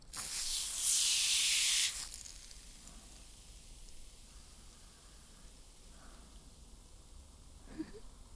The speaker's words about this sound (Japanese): このスプレー最高やろ？